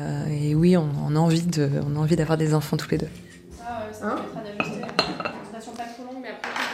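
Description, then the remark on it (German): Dishes and cutlery clink in the small kitchen of a medical practice at lunchtime as several female staff members chat and a microwave runs; sharp metallic and ceramic taps come irregularly, fairly loud beneath the voices. “Es ist Mittagszeit. Die Praxis schließt. Die Mitarbeiterinnen treffen sich in der kleinen Küche.”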